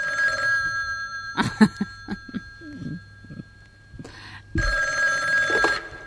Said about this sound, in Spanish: Y nada, y sobre esta hora siempre suena un teléfono.